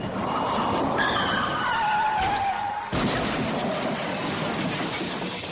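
Tires screech loudly as a car skids for a few seconds, then an abrupt jolt suggests a collision with another car, followed by continued loud rumbling noise. No one speaks.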